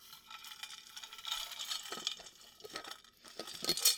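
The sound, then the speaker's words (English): Ice cubes clink and rattle against a glass as ice-cold spring water is poured, a steady bright jingle of small clinks with sharper taps near the end, no talking. “Some nice spring water. Ice cold.”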